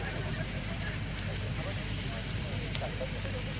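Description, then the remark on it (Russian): A bonfire crackles steadily, a dense rushing roar broken by scattered small pops, with a low rumble and faint murmuring voices underneath. “Так, давайте не на костер, а на меня смотреть.”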